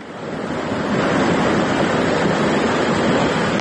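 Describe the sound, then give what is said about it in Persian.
Floodwater from heavy rainfall rushes loudly and steadily through the streets of the village of Vorukh near Isfara, a dense, continuous roar of churning water that swells slightly in the first second and then holds constant, with no voices. “در نوارهایی که کاربران فرستادند دیده می شود که کوچه های دهه ورخ در زیر آب قرار دارند و ساکنان تلاش دارند اشیای روزگار خود را از آب بیرون کنند.”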